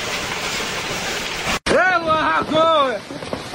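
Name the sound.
hailstones falling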